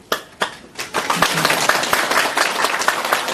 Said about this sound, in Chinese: 下面呢卢台长就会慈悲为大家开示，我们现在以热烈的掌声欢迎卢军宏台长。